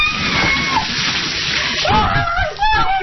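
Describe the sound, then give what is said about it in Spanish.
A bucket of water with ice cubes pours down over a person's head in a loud splash, followed by sharp shrieks and yelps while the water keeps sloshing and dripping. “Esto que escuchan ustedes por detrás son eso, precisamente sonidos de personajes anónimos lanzándose cubos de agua con cubitos de hielo por la cabeza.”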